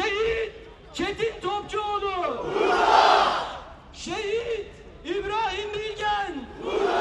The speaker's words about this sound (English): The crowd roared as the names of the dead men were read out, and activists, including an Israeli-born Swede, urged the world not to forget the people of Gaza.